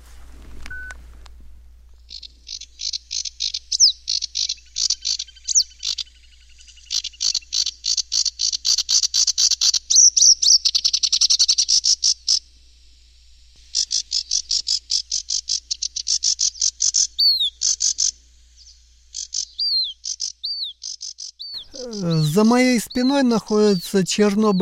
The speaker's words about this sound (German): Die Vogelstimmen hat er alle in seinem Handy gespeichert. Kamischowka, Barsuchok.